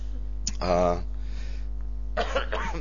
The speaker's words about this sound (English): Tudom, nagyon ijesztően köhögök, de csak köhögés. I know my cough is very scary, but it's only coughing.